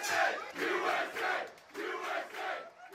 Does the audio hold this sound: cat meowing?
no